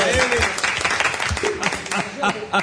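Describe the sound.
A live audience applauds with steady, dense, loud clapping throughout, while a voice or two calls out briefly over the clapping.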